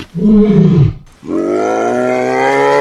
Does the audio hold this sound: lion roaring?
yes